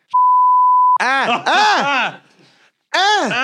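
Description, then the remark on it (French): A single steady censor bleep lasts under a second, loud and clean, covering a spoken name. It is followed by voices making drawn-out, swooping exclamations. “Attends, dis-le, puis on va le biper au montage.”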